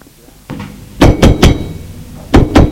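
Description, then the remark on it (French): Sharp knocks on the wooden door of a drawing room: a quick group of three, a short pause, then two more, loud with no talking. “On a frappé à la porte du salon.”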